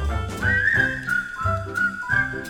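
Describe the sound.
A bright, clear whistled melody carries a sustained, gently wavering tune over a bouncy, rhythmic low accompaniment, close and steady, with no talking.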